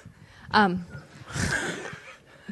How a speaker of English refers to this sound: No, dog's sleeping, snores like Linda.